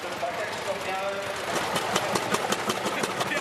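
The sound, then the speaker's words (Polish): A 1923 Lanz vintage tractor engine runs at a bread festival in Ciechanowiec, its steady rhythmic chugging growing into distinct evenly spaced thumps over a broad mechanical clatter. “Jest to jedna z najstarszych naszych ciągówek firmy Lanz z 1923 roku.”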